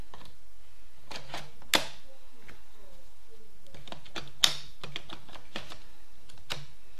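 Batteries are fitted into a device: irregular light plastic clicks and rattles, with two sharper snaps standing out, and no voices.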